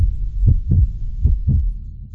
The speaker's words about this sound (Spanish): Ya se escucha su latido.